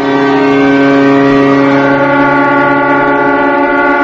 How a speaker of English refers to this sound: The ocean of people stood bowing for 3 minutes, with a distant siren the only audible sound.